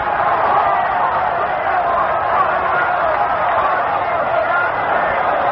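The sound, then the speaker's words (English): A large stadium crowd at a Notre Dame versus Army football game in Yankee Stadium roars and cheers in a steady, dense wall of noise, holding at the same loud level throughout with no single voice standing out, as Army calls timeout after a long Notre Dame run. “Listen to this crowd in the Yankee Stadium.”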